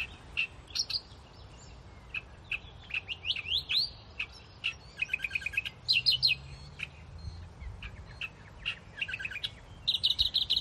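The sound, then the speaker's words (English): A reed warbler hidden in reeds by a lake, about 2-3 metres away, sings in a steady stream of rapid, chattering notes and repeated scratchy phrases, loud, with a soft low background rumble and no talking. “Listening to the reed warbler here. We're only 2-3 metres away from the bird in the reeds, but we certainly can't see it.”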